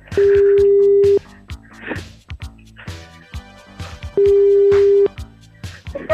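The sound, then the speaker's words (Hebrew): Telephone tones from a call placed on air by a Radio Kol Chai radio show to a listener's mother: two long, steady, low-pitched beeps, each about a second, with a gap of roughly three seconds between them, over busy background music. “כל הכבוד אדוני, כל הכבוד, אז בוא נתקשר אליה.”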